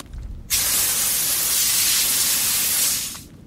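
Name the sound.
water spraying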